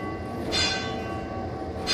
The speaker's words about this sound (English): So there were various complex systems to describe what a bell was telling you, and there were different size bells that made different noises, and that was the emergency backup.